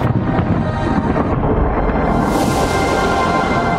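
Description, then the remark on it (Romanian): A volcano rumbles: a deep, continuous rumble rolls on steadily and loudly, thick with low booming energy, while a harsher, hissing roar rises over it partway through. No one speaks. “Mai cum bubuie vulcanul ăsta.”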